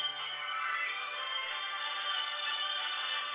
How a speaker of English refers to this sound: did you have the nerve to call my personal phone line while I'm live on air doing my radio show?